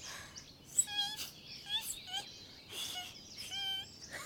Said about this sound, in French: Oh, on dirait que les oiseaux nous parlent. Oh, allô les oiseaux.